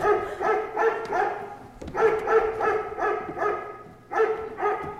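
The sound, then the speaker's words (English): A pack of gun dogs barks and bays in rapid, overlapping bursts, keeping up a steady noisy chorus with a brief lull before the barking surges again. “Gun dogs, they must be starting to shoot together.”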